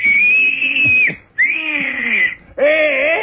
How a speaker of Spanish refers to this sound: Ah, lo hubiera chiflado yo, ¿eh? Ah.